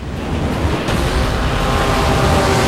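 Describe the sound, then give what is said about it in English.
A loud, steady rush of churning water and wind as a yacht's powerboat speeds over choppy waves towards a swimmer in the water, with a continuous roar and no voices. “Now the yacht's powerboat speeds towards him.”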